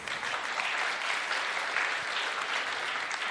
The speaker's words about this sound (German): Und das Tolle, ja, ihr dürft klatschen, ja.